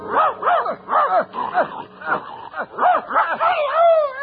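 A dog, Crab, barks in a quick, steady string of about a dozen yelping barks, then breaks into a drawn-out, wavering whimper at the end.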